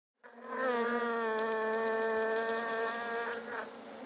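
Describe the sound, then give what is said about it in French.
A steady insect buzz of bees flying from flower to flower collecting nectar, droning continuously with a rich harmonic hum, holding at an even pitch for several seconds with no voices. “Regarde ces abeilles! Elles volent de fleur en fleur.”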